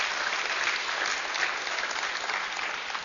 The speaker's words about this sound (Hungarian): Yeah, let's give God a hand for that. That's amazing.